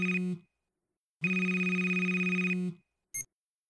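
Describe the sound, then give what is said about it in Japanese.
A phone ringtone plays in loud electronic bursts: a short opening chirp, a longer sustained ring, then a brief blip as it cuts off. It sounds clear, with no voices. “電話出てもいいですか？”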